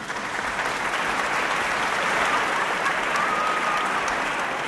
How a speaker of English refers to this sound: It's a humanoid robot that had its conducting debut last night in Detroit. It walked, yes, you heard me, it walked onto stage to a thunderous applause worthy of Leonard Bernstein.